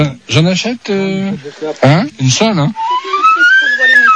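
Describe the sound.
A person speaks briefly, then a small handmade whistle, bought as a souvenir, sounds a thin, steady tone that slides gradually upward in pitch for over a second, moderately loud.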